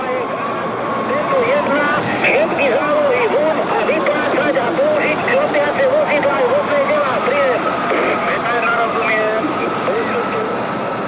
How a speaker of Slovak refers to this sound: Takže politická komisia z hotela Carlton sa rozhodla rozohnať definitívne toto zhromaždenie použitím dvoch vodných diel tesne pred tou 18:30 hodinou.